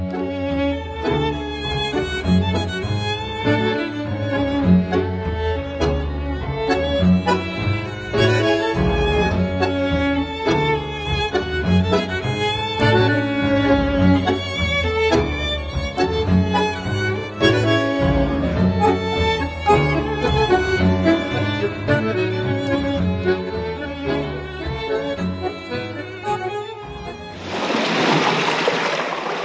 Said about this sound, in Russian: со своим голландским ансамблем и самое, что ни на есть, настоящее танго.